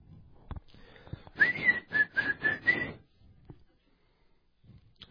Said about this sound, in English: And you can whistle while you work.